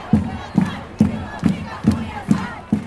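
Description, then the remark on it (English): A large crowd of thousands of women in Rio, Brazil, protesting against a bill, chants the slogan "In with the morning after pill, out with Cunha" in unison, loud voices hitting a steady rhythm of seven strong, evenly spaced beats over a constant crowd murmur. “Last month, thousands of women in Rio protested against this bill.”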